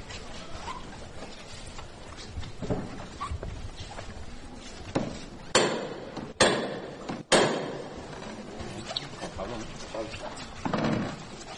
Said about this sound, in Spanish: Va a tocar martillo el capataz de Nuestra Señora de la Angustia